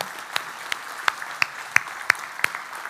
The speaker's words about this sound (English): Let's give a round of applause for our volunteers that came in today.